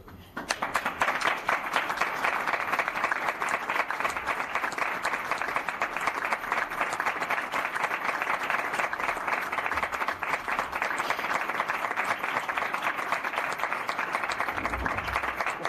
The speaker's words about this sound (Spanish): Bueno, pues son los aplausos sinceros de los medios de comunicación, entiendo, fundamentalmente,